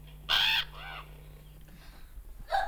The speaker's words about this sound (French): Ah là, ben là, vous l'avez tous reconnu. Hein. La mouette.